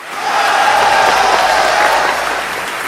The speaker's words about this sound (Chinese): 这么精彩的演出看100遍都不会烦，让我们再次将热烈的掌声献给